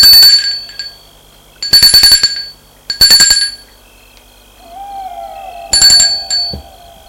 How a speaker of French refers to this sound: Ils ont sonné.